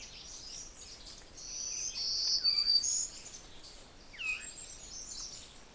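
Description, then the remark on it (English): A few soft, breathy, downward-spiraling veery notes rise from a steady, high insect drone in a yard set in the woods with berry bushes, one cluster midway and another near the end. “Most of the peculiar notes are the veeries.”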